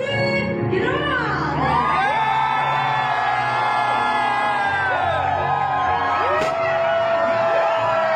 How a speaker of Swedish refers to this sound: Ni tågade in, det sköts konfetti i guld. Och ni tågade in vackrare någonsin. Publiken tjoade, kimmade, alla var glada.